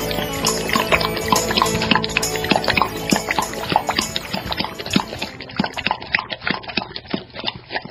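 Water pours and splashes steadily, with a rapid scatter of bright drips and plinks running throughout, thinning slightly toward the end. No voices.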